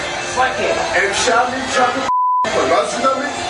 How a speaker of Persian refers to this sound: اینجا رو بوق میذاریم